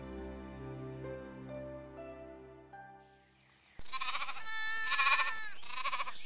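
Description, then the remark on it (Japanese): Sheep bleat loudly in a quavering, wavering cry that follows a quiet stretch of soft sustained music, with a second bleat overlapping near the end. “アベル、お前の飼ってる羊もだいぶ増えたな。”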